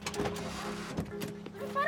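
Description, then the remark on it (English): A car idles with a low steady hum while a few short clunks and rustles suggest doors opening and people climbing out, followed by a brief higher whine near the end. “They get out of the car.”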